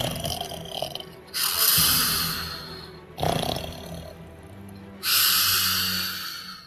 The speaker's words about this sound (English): And soon snores were rending the rafters like a bow saw.